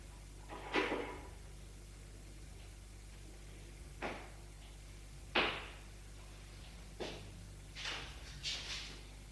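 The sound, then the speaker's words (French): A door being opened: a handful of irregular wooden clunks and clicks, each sharp and brief, spread out with quiet gaps between them, no voices. “Ouvre une porte.”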